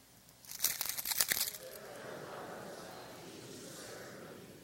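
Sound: keys rattling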